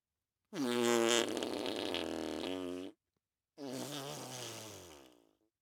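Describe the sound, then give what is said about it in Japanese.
Two long, loud, close-up fart sounds in a row, the first a sustained buzzing blast of over two seconds, then a pause and a second rippling one that sputters out. “でもこれでとどめえ、くっせえおならも近距離で食らえもじゃん。”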